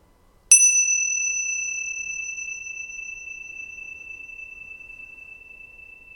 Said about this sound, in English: So all I want you to do, it's not a meditation, it's an exercise, is to listen to the sound of the bell. So just listen to the sound of the bell moving through time.